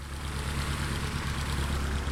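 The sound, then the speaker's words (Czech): The piston engine of a tow plane, just started for an aerotow, idles steadily, a low, throbbing drone with a rhythmic pulsing beat and broad mid-frequency noise, holding an even loudness throughout with no voices. “Já slyším, že letadlo, které vás nyní vytáhne do vzduchu, už nastartovalo.”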